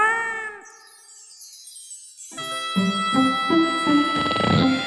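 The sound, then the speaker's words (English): A cat-like meow with a bright, tonal quality rings out, then gives way to a run of sustained, shimmering tones with short pulsing notes. Fairly loud and close, with no talking. “Every night, Shovel slept in his tank, while the big bad cat stole his tea.”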